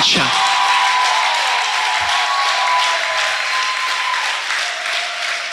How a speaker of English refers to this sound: If you know that he loves you, raise your hands above your head and clap them like there's no tomorrow.